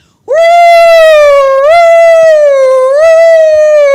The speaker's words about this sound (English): When enemy planes were coming in the war, they would sound the sirens.